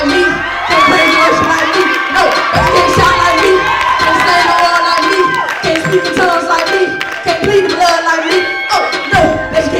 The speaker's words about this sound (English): Now that was the pastor of that church. And if you heard all the people, they started screaming, they liked that, enjoyed.